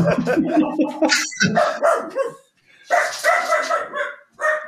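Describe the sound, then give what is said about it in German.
A dog barks loudly in a rapid string of barks and yips, pauses briefly, then resumes with another volley of excited barking. “Warte mal, ich muss mal kurz meinen Hund rausschmeißen.”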